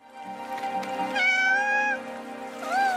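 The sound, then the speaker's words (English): A cat meows several times in drawn-out, wavering cries, one rising and falling, heard clearly and close with no talking, over a faint low background hum. “Flow is an ingenious animation featuring a cat battling catastrophe who learns to rely on others.”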